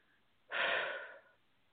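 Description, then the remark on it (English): A single heavy, breathy exhale, fairly loud, rushing out for under a second before trailing off into quiet. No one speaks. “I'm doing a lot of breathing.”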